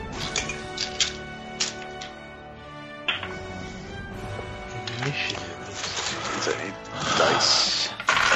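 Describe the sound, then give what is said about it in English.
Dice clatter across a table during a tabletop role-playing game in several quick bursts of sharp clicks and rattles, with a busier tumble toward the end, over a background murmur of voices. “Dice thing, yes.”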